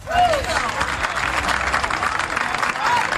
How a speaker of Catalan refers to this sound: De nou un aplaudiment pel Basté.